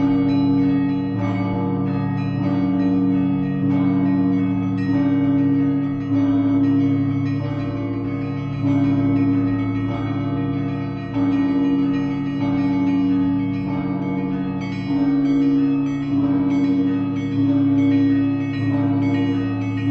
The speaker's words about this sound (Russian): команда звонарей, сформировавшаяся тогда, в 92-м году, сохранилась и до сих пор, и мы продолжаем там звонить в колокола